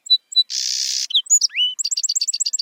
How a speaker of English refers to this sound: in song sparrow populations where birds had similar songs, birds were more likely to survive and hold on to their breeding territories. In other words, if one song is a hit during the breeding season, these sparrows keep singing it.